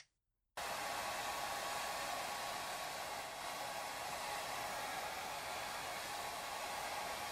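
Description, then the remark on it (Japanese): A hair dryer switches on after a brief silence and blows steadily as a customer's hair is dried in a shop, a loud, continuous whooshing hum that holds without pause until the end. No one speaks. “けれど、もっと良くするため、髪を乾かしてしまいましょう。ドライヤーを当てますので、少々じっとしていてくださいね。”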